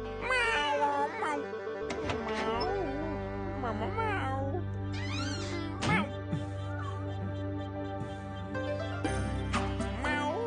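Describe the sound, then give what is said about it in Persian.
A cat meows repeatedly in drawn-out calls that rise and fall in pitch, some high and wavering, over a steady low background hum; no one speaks. “تا اسم موش شنیدی سر و کلت پیدا شد؟”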